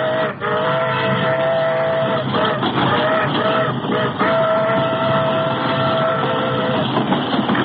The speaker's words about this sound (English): speeding from coast to coast, the Federal Express thunders through the night.